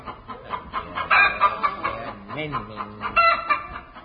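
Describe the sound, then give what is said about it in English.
Busy clucking from a hen being held, with repeated short squawky bursts and a brief rising crow-like call in the middle, in fog, over slight background noise. “Min, hold this chicken.”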